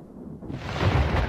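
Thunder rumbles in a storm, a deep, broad roll that swells louder after a quieter start and stays heavy, with no voices.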